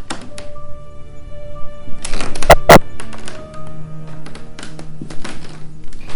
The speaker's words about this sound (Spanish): Ya no era una ilusión. Unas pisadas lentas sonaban sobre la alfombra. El rumor de aquellas pisadas era sordo, pero continuado, y además se oía crujir una cosa como madera o hueso, y se acercaban. Se acercaban.